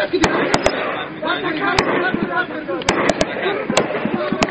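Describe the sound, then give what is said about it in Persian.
Sharp gunfire cracks ring out in an irregular scatter, roughly nine sharp bangs over a few seconds, with a steady rumbling, crowd-like murmur underneath; artillery and gunfire in the city of Aqcha during attacks by armed opponents of the government on the city centre. “اما اوجگیری ناامنی‌ها و حملات گسترده مخالفین مسلح دولت بالای مرکز شهر آقچه، ساکنان این شهر را نگران ساخته، صدای دلخراش توپ و تفنگ فضای شهر را وحشتناک ساخته است.”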